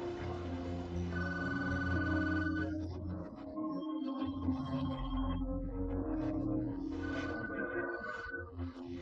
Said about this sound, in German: Telefon gegangen.